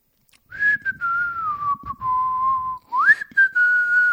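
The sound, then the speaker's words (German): A person sitting in an airplane cockpit in flight, occasionally pressing switches and buttons, whistles a calm, relaxed tune: a long gently sliding note followed by a brief pause and a rising phrase, with faint clicks and rustling underneath. “Er sitzt gemütlich in seinem Cockpit, drückt ab und zu auf einen von diesen vielen Schalter und Knöpfen und pfeift friedlich vor sich ein.”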